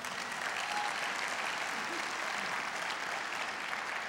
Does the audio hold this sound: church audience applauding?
yes